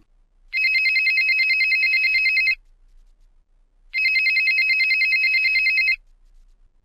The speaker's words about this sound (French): Et maintenant, des sonneries personnalisées. Ah, y'a quelqu'un qui sonne, tu vas pouvoir dépoussiérer ton téléphone. Enfin bon, t'emballe pas, ça se trouve c'est un sondage. Y'a ton téléphone qui sonne.